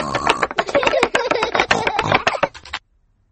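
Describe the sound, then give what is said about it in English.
Rapid, busy typing by Mummy Pig on her computer keyboard in Peppa Pig, a dense clatter of fairly loud key clicks that runs for almost three seconds and then stops abruptly. No voices. “Mummy Pig is working on her computer.”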